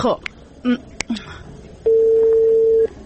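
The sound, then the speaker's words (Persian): A few short electronic keypad beeps and clicks as a number is dialed on a mobile phone to make a call, then a steady, sustained ringing tone lasting about a second, fairly loud. “خی زنگ بزن اش که خوب نیستم.”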